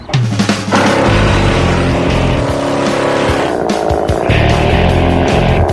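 A wood chipper engine roars steadily and loudly up close, a dense mechanical drone with shifting pitch and grinding rattles running for several seconds without a break.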